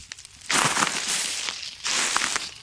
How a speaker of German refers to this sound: Und wie ihr hört, an meinen Schritten befinden wir uns in einem Waldlaub.